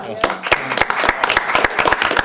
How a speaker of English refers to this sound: Congrats yes, on 50 years. I think yeah. That's worth a round of applause.